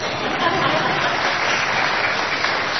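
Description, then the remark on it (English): An audience claps steadily, a dense, even wash of many hands that holds at a constant loud level for the whole stretch, with a faint murmur of voices mixed in. “Yes, you can clap.”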